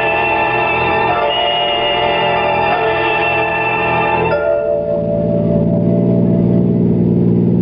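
car engine revving

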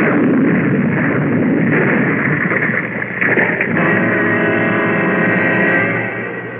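loud explosion

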